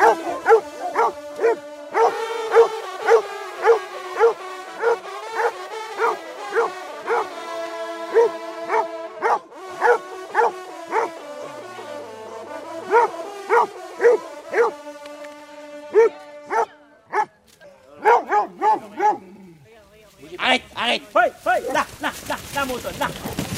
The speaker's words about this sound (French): Les chiens sont en train de dévorer la bête. Là, ils se précipitent de là. Ils ont déchiqueté la bête. Il y en a un qui est parti avec un gros morceau. Les chiens sont en train de manger la bête.